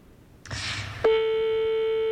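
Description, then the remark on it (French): A short burst of hissing noise gives way to a loud, steady electronic tone of a telephone ringing on the line, holding unbroken to the end with no voices. “Écoutez, appréciez, on fait sonner.”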